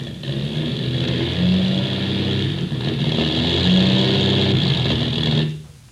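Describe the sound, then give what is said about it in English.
A rough, droning airplane engine with motor trouble sputters and labors over the Indian Ocean, its low tone rising and falling in uneven surges before it cuts out abruptly near the end, leaving near silence. “We've got motor trouble.”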